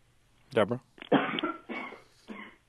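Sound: woman coughing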